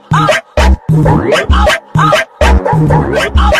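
Loud, rhythmic dog barks repeat in quick bursts, about eight in under four seconds, punched out in time with a heavy thumping bass beat like a sampled bark in a dance track.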